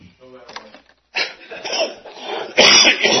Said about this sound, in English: That's as bad as my cough.